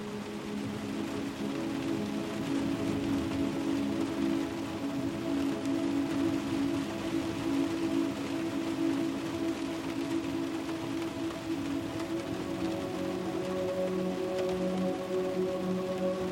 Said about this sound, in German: Der Regen malt kleine Muster auf das Glas über dir, aber deine Augen wollen ihnen kaum noch folgen.